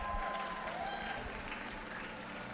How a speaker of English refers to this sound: What an incredible performance. Round of applause!